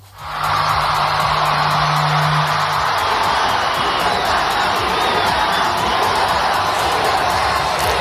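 A large crowd of Venezuelans at a mass rally in Madrid for María Corina Machado roars and shouts "libertad" continuously, a loud, dense wall of voices that stays steady for the whole stretch.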